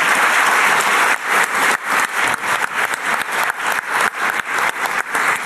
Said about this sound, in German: Schön, dass Sie hier sind. Ein Applaus für Sie.